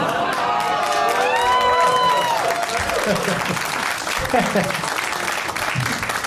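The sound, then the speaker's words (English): A large audience claps steadily in a dense, continuous wash of applause, with excited whoops and cheering voices rising over it near the start. “I'm just laughing at pandering for applause.”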